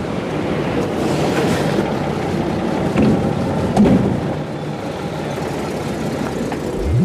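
A helicopter engine roars steadily and loudly for the whole stretch, a dense, continuous rumble with a few brief swells and no voices over it.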